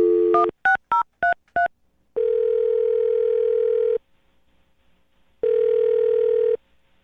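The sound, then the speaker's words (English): A quick run of five touch-tone beeps as a woman's phone number is dialed, then two long, steady ringback tones, each about two seconds, separated by a pause of silence. No talking. “I'm gonna dial her phone number right now, see if we can get her on the phone and find out why she's not getting back to you, okay?”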